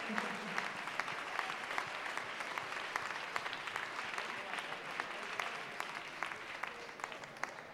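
Sustained audience applause for the Ball de Gitanes dance group, a dense steady patter of many hands clapping for several seconds at a fairly even loudness, with a few sharper claps standing out.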